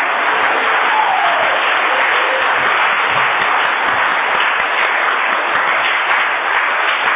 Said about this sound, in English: Thank you very much. Let's give him a big, big applause for him, please.